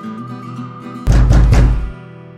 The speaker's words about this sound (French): Un soir, 3 coups firent trembler la porte de leur pauvre chaumière.